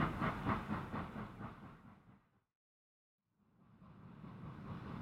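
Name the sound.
train leaving the station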